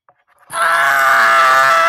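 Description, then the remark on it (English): A voice mimics a dog screaming: one loud, sustained, strained cry that starts abruptly after a brief quiet moment and holds steady at full volume until the end. “Once upon a time, in a dream, a dog started screaming.”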